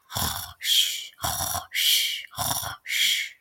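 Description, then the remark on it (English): Exaggerated, cartoon-like loud snoring, likely voiced by a person, of someone in bed: three full cycles of a rattling, rumbling inhale, each followed by a long, airy whistling exhale, steady, with no talking. “One beautiful day in a little town called Bluesville, and in a big house, I was in bed snoring loudly.”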